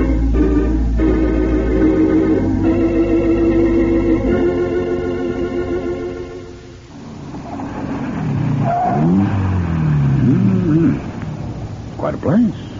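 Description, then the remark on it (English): A car engine idles with a steady, droning hum for several seconds, then revs in rising and falling sweeps as the car pulls off and drives away. “Which is your car? This one right here.”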